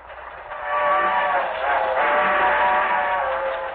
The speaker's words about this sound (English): Trains cross the continent in a swirl of dust and thunder. The leaves fly down the tracks behind them. The trains cleave through gulch and gully. They rumble with spoke thunder on the bridges above the brown wash of mighty rivers.